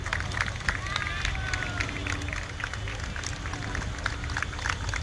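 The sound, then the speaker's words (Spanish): A street crowd in Rome on a bright day lines both sides of the road on the sidewalks, applauding and throwing flowers at the Pope, amid a constant murmur of voices, with sharp scattered claps and a few whistling tones over a steady low rumble. “Hay gente en una y otra orilla de la carretera, en las aceras, aplaudiendo y tirándole flores al Papa.”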